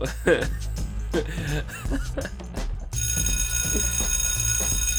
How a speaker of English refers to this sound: Oh no, that's the bell.